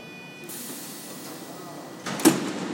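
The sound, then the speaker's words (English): A steady pneumatic hiss from a Frexia Bianco intercity train at Porta Sousa Station, about to leave for Milano, then a louder rushing whoosh as its doors slide shut, ending in a firm thud against a low station hum. “There is a Frexia Bianco train next to us, which is basically like the sort of standard intercity train, which is about to leave for Milano.”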